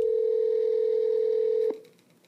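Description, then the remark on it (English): A steady electronic telephone ringing tone sounds once for nearly two seconds, loud, as a phone call is placed, then cuts off abruptly into quiet line noise. No one speaks. “And I called him on the phone to walk through those steps with him.”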